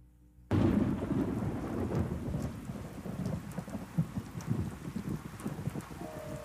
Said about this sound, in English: The storm has not let up, and I can't get a plane out. I hope the weather is better where you are, and the storm is not heading your way.